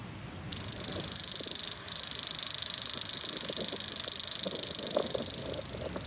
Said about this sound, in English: Does that sound like an insect to you? Well, it does sound like an insect, but I think what that is a grasshopper warbler. So it's a bird that makes the same sound as a cricket.